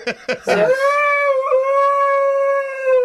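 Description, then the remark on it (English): A dog lets out a few short yips, then breaks into one long, sustained howl that holds a steady pitch, loud, with no talking. “How much clearer can the dog make it?”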